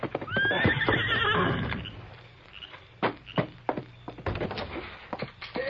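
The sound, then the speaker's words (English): The Lone Ranger's horse Silver whinnies loudly with a rising, wavering neigh after arriving near midnight at the small way station at Wolf River Crossing, then hooves clop in an uneven series of sharp knocks and thumps as the horse shifts and settles. “Oh, Silver, oh boy. Steady, big fella, easy.”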